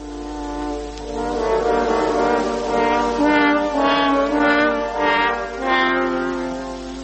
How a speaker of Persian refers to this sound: سه تا هورن با هم صدای گرگه رو در آوردن